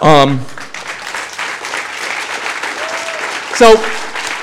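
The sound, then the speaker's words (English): An audience claps steadily for about four seconds, a dense wash of hands at fairly even loudness, with a brief voice at the start and a short shout or cheer near the end. “You can clap if you want.”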